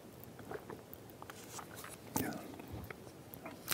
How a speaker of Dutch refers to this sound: En dan ga ik eerst een slokje voor nemen.